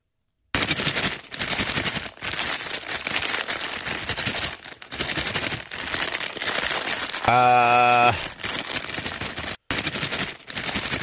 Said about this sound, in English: It's the shaking of a Halloween bag of candy.